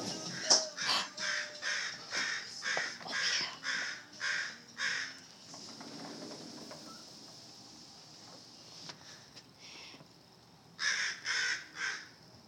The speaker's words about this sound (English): I think we have a thing of crows